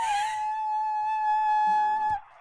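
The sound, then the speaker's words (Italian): A voice, played back from a smartphone held up to a microphone, imitates a mermaid's song, holding one high, steady, wordless note for about two seconds. It wavers slightly at the start, then stops abruptly. “ci ha deliziato della sua versione del canto della sirena, che io adesso vi faccio sentire avvicinando lo smartphone al mio microfono.”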